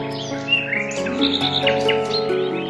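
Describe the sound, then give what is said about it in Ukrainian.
Bright, warbling nightingale song twitters and trills above a steady backing of sustained musical tones, the calls repeating in quick, close flurries throughout. “Заспівали у гаю солові”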